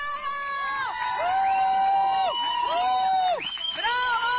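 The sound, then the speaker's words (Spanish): A crowd of colleagues and friends from Proemaid outside the courthouse of Mitilene, capital of Lesbos, cheers and shouts encouragement in a loud, steady din, many voices overlapping with rising and falling yells that swell and dip across a few seconds. “quedaban en libertad y eran recibidos con gritos de ánimo y abrazos.”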